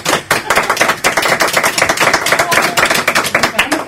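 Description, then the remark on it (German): Steady applause from a studio audience in Studio 1 during a live broadcast, many hands clapping in a dense, crackling wash that stays loud and even for a few seconds with no talking over it. “Wir haben auch eine ganze Menge Publikum da, das sich jetzt vielleicht mal kurz hören lässt.”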